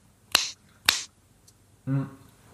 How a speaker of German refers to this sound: Das ist Schnipsen. Ja, aber das ist jetzt Schnipsen kein Überschallknall.